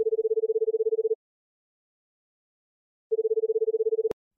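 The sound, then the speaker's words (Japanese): Two bursts of a phone's calling tone as a call is placed after tapping the call button, each a steady low warbling purr about a second long, separated by silence; the second cuts off with a sharp click as the line connects. “通話ボタンをタップして。”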